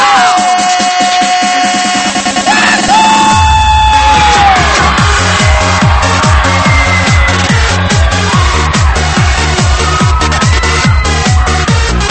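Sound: audience screaming and cheering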